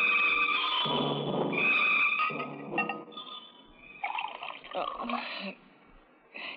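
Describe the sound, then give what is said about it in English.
A drink is poured into a glass, a steady liquid trickle with faint glassy ringing, while voices speak over much of it. “I'm just pouring myself a drink.”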